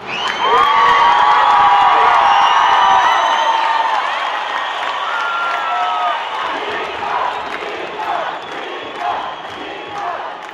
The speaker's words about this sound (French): Et quand le résultat du vote s'affiche sur les écrans, une immense clameur s'élève de la place de la République.